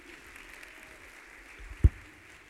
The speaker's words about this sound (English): So without further ado, I'll let him take over. Here you go. It's a big round of applause. Thanks, man.